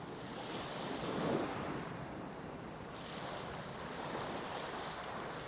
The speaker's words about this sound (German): Mit meinen Schuhen in der Hand schlendere ich barfuß durch den weichen, warmen Sand und von Zeit zu Zeit umspülen seichte Wellen meine Füße. Ich bleibe stehen und Welle um Welle umspielt meine Knöchel.